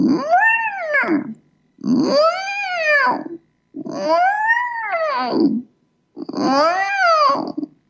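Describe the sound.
A person imitates whale calls with four long, swooping moans, each rising then falling in pitch, separated by short pauses. Fairly loud, with no other sounds.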